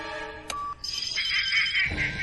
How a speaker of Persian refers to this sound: باز اون تلفن رو مخ.